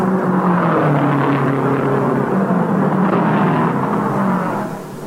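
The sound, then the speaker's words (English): A loud racing car engine roars steadily with a rough, droning tone, holding full volume before easing slightly as the car pulls away from a pit stop at the very end, after its tires were changed and windshield polished, 67 seconds after stopping. “A crewman polishes the windshield as Holland moves away just 67 seconds after he stopped.”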